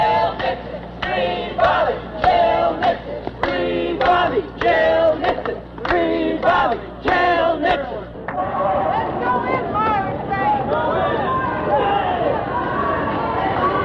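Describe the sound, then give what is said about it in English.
A protest march crowd chants "Free Bobby, Jail Nixon" in loud, rhythmic unison shouts for several seconds, then breaks into a dense, continuous roar of overlapping shouting voices, with shouts to go into Meyer and Frank after passing the Pioneer Post Office. “There are shouts that they should go into Meyer and Frank.”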